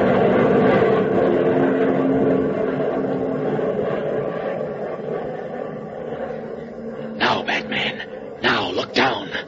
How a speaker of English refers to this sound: Oh, the plane's going away,